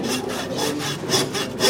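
A hand saw blade rasps back and forth through wood in steady, rhythmic strokes, about four passes, clear with no voices.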